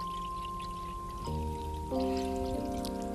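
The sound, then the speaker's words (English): About 4 cups of water pour steadily from a measuring cup into the bottom bowl of an electric appliance, the splashing tone rising in pitch as the bowl fills. Continuous, with no voices. “So we'll get, here's the measuring cup.”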